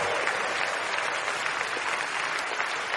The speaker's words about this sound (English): Keep clapping. Keep clapping. Your hands will never be empty. Keep clapping. Whatever you touch will begin to prosper. Keep clapping for the Almighty God as he's bringing these people to himself.